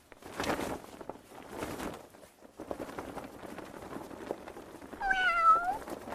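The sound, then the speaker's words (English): Dozens of cats, dropped in boxes with parachutes from an aircraft over Borneo, meowing amid a busy, noisy background of rustling and shuffling, with one clear, drawn-out meow rising near the end, fairly loud. “Cats. Dozens, maybe even hundreds of cats.”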